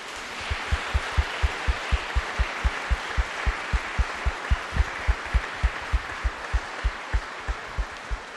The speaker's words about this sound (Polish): I po tej ciszy osobne, wielkie brawa dla rodziców, że nie zrezygnowali.